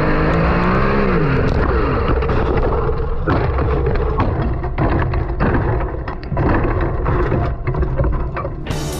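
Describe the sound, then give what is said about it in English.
A loud sprint car engine revs and roars, then gives way to a chaotic run of bangs, clattering and scraping as the car flips over, with no talking. Shane Van Gisbergen racing a sprint car in New Zealand and flipping for the first time in his career. “In a related story, kind of, soon-to-be Cup rookie Shane Van Gisbergen was back in his native New Zealand recently racing a sprint car and wound up flipping for the first time in his career, which sounded like this.”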